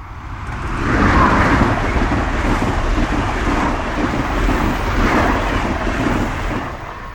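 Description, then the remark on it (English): A high-speed Metroliner train rushes past at about 120 miles an hour with a loud, steady roar and deep rumble that swells within the first second and holds for several seconds with no one talking. “you know that sounds like a metro liner coming.”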